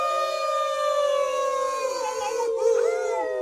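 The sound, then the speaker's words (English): Several people in a radio studio with dogs howl together in sustained, overlapping wails imitating dogs, a loud chorus of long rising and falling tones that slides downward near the end. “So if everybody in the room howls.”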